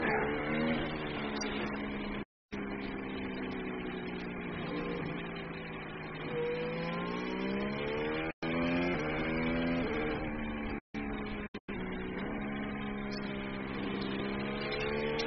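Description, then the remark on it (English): A race car engine drones steadily as the driver slows down for a red flag, its pitch rising and falling as it revs up and eases off, with a few abrupt cutouts of near silence. No one speaks. “Get the car back. Do you think there's damage?”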